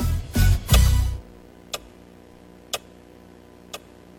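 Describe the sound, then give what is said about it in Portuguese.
A brief loud rushing burst opens, then three crisp clock ticks follow about one second apart, sharp and isolated against near silence. “Conta 10 segundos no relógio aí.”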